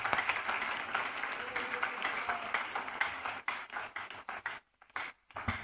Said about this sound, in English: Oh, you can clap those hands now.